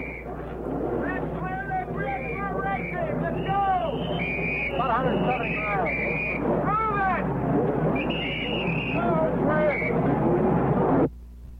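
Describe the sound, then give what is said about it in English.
A pack of 30 Can-Am race car engines rumbles and revs together at the end of the pace lap at Laguna Seca, edging toward a flying start in front of the pits, overlapping pitches rising and falling in a loud, continuous drone that cuts off abruptly near the end. “The end of the pace lap at Laguna Seca as 30 Can-Am cars edge toward a flying start in front of the pit.”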